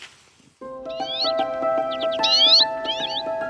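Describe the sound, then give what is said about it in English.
Common redpoll calls, a tiny finch that visits in winter from the far northern tundra: bursts of quick, high, buzzy twittering notes that come in clusters over a steady, lower sustained tone, starting after a brief quiet opening. “And the correct answer is... it's a redpoll.”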